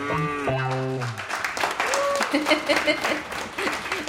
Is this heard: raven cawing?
no